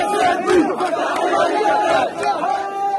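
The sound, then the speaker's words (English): Thousands of people shout and cheer outdoors at street celebrations across the Gaza Strip, East Jerusalem and the West Bank, setting off fireworks and waving Hamas flags for the militants' victory over Israel; many overlapping voices rise and fall in a steady, loud roar without a break. “Thousands of people came out. They set off fireworks and some waved Hamas flags, cheering the militants who rule over Gaza for their victory over Israel.”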